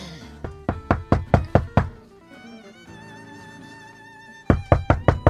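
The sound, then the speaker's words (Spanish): Loud, forceful knocking by a father on the door of his house in a rapid series of about seven blows, then a pause filled with soft music, then another insistent burst of five knocks. No one speaks. “A ver si va usted a romper la puerta, que es la única que hay.”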